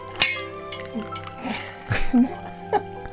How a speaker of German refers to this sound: Plätschernde Klaviermusik. Das Klappern von Tassen.